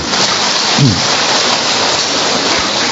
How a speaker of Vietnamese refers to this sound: Rồi, chúng tôi cho chị này một tràng pháo tay.